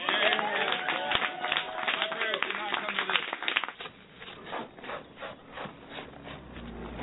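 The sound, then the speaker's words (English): An audience breaks into applause, a dense wash of many hands clapping under cheering voices, then thins out into lighter, scattered clapping. “I wanted to get a round of applause for his parents.”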